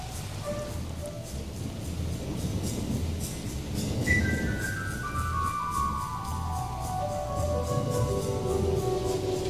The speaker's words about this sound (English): Okay. This is just the track with the whisper and the percussion.